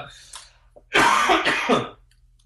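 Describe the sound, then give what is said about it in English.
A person with an awful cold clears their throat and coughs in a couple of rough, breathy, fairly loud bursts, preceded by a brief faint rasp, with no talking. “Do you mind if I do a little coughing?”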